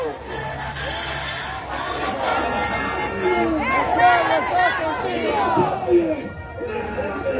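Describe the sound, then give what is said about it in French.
A large crowd chants, sings and shouts together as a plane turns in front of them toward the runway, many raised voices overlapping in a steady, loud roar with rising and falling shouted tones throughout. “Voilà, l'avion est en face du public, fait son demi-tour, va se mettre face à la piste d'envol, et le public continue de scander, chanter, hurler, pleurer, tous les drapeaux au vent”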